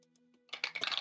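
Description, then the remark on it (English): After a brief near-silent moment, dice rolled for an arcana or survival check clatter across a hard tabletop in a quick run of sharp clicks and rattles that tumble for about half a second. “Roll me an arcana or survival.”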